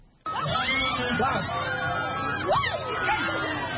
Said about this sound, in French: Ces cris sont des manifestations de joie devant la bravoure d'un jeune homme qui a reçu sans broncher les coups de fouet, signe de son passage à l'âge adulte.